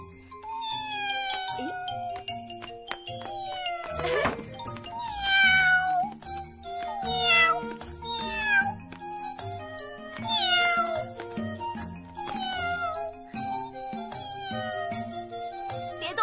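A cat meows again and again, a run of drawn-out, rising and falling cries at a steady pace, fairly loud over a soft, sustained musical background.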